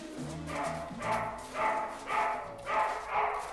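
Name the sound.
dogs barking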